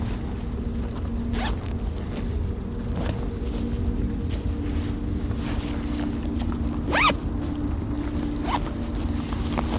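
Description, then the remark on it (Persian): A coat zipper is drawn open in several short rasping pulls as someone takes off their coat, the loudest near the middle, over a steady low engine rumble as if inside a moving car. No one speaks. “کتو تو در بیار، در بیار کتو. پس یک اون مانده بینچه کارتو باز کن. باز کن.”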